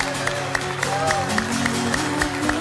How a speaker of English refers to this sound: Come on. We're waiting. Come on. Keep on clapping. Hallelujah. Come on, come on, come on, celebrate.